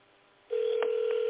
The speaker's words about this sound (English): Let's see if we can bring you in this way. I'll call you on your landline from my phone.